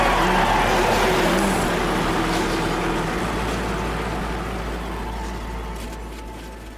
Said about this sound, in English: And now for the most famous words in motorsports. Gentlemen, start your engine!